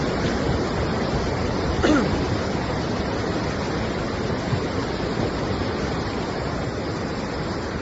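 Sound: rushing floodwater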